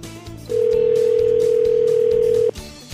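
A telephone line tone as a call is dialed to the Bait Plus bait shop in Gwynn: one steady, mid-pitched tone that holds for about two seconds and then cuts off, louder than the low murmur of sound around it.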